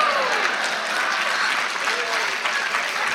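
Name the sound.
clapping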